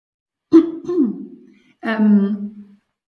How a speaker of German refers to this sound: Ich muss einmal mich räuspern.